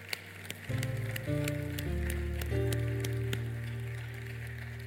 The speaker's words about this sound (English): You guys give those that receive Jesus morning a hand clap.